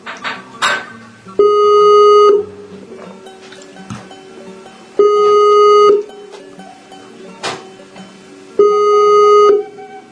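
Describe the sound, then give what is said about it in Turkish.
A telephone rings three times, each ring a steady electronic tone lasting about a second, spaced a few seconds apart, fairly loud over faint background clatter. “Evet, telefonumuz çalıyor.”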